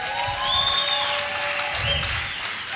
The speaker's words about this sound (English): Come on, let's give a round of applause.